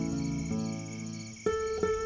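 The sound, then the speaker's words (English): Crickets trill in a steady, continuous high chirring, set against soft sustained tones that shift a couple of times. No one speaks. “He likes the gentle sound of the crickets.”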